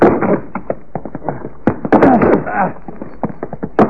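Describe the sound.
People try to force open a locked tool shed door: a rapid, irregular series of heavy thumps and knocks, with straining voices breaking in between the blows.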